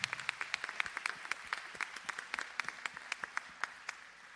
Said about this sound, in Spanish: Y le damos un aplauso.